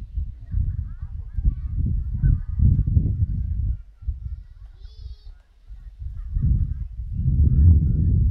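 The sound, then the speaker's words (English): A conch shell is blown, giving low, breathy, honking horn tones that swell and fade in several long blasts, with faint voices at times. “I just heard the conch, which means I'm almost out of time.”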